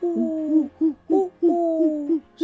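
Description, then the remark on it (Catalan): A voice imitates a little owl with a run of hooting calls, two long drawn-out hoots separated by shorter clipped ones, clear with no other sounds around it. “Què fa el mussol? Fa...”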